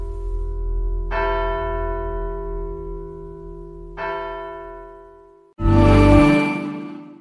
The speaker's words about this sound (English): On April 6th, 2024, starting at 3:32 in the morning, the bells of Santa Maria del Suffragio began to chime. 309 times they rang out, one for each victim.